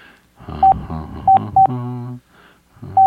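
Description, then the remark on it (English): DTMF keypad tones from a phone number being typed in: several short, sharp beeps in an uneven rhythm, fairly loud, with brief pauses between presses and no talking. “This is me typing in the phone number right now.”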